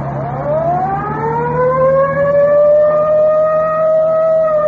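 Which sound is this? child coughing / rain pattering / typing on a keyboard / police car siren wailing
police car siren wailing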